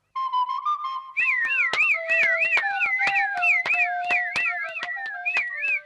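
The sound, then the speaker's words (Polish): A shepherd's pipe (fujarka) sounds a steady, reedy note, then breaks into a fast, warbling trill that loops over and over above a held lower tone, punctuated by regular sharp clicks. “A cóż to, fujarka?”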